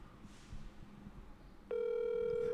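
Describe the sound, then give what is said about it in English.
Faint muffled shuffling, then an abrupt, loud, steady electronic telephone ringing tone as a phone call is placed; it holds unbroken to the end. No one speaks. “All right, here we go. I'm calling it.”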